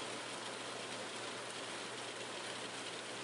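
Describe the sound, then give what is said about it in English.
Steady rain pours down in New Mexico while the sun shines, a continuous, even hiss, dense and unbroken throughout, with no voices or other distinct sounds on top of it. “The sun is shining and the rain is coming down.”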